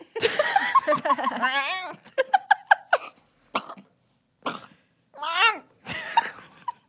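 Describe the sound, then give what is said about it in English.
A person vocally imitates a cat reacting to food it dislikes: a string of sputtering, hacking coughs and rapid clicking bursts, then warbling, gagging yowls, fairly loud. “That was my impression of a cat who's something they don't like.”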